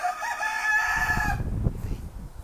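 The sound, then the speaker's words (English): A rooster crows loudly, one long strained call that holds for over a second before trailing off into low rumbling background noise. “I lost my train of thought there with the rooster growing.”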